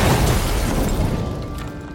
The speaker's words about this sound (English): Because very soon after, the bomb exploded.